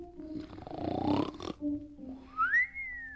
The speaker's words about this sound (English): "I wonder why the old woman is snoring so loudly today," he thought. "I will step in and see if anything is wrong."